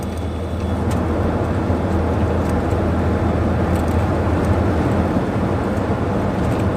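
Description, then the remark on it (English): A warmed-up car engine hums steadily from inside the cabin while driving on a shopping trip on a warm day, a continuous low rumble with road noise that stays even and fairly loud throughout, with no voices. “Nice warm day, a few k's, engine's warmed up”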